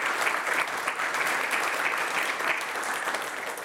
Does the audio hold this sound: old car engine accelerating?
no